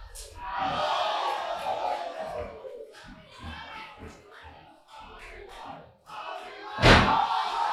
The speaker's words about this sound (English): Crowd chanting Hollywood and pin.